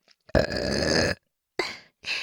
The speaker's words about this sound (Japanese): 連続ゲップ、もう一回行くよ。